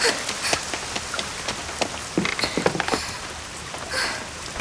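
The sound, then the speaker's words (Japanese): Heavy rain from a sudden downpour pours down steadily, a dense hiss filled with sharp, irregular drops spattering on a hard surface. No voices are heard. “今日は晴天だって聞いてたのに、こんなゲリラ豪雨に遭うなんて、ついてないったらありゃしないわ。”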